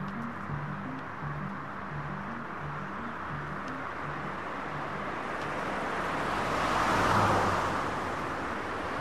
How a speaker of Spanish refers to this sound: El coche de policía los encuentra y se acerca a ellos.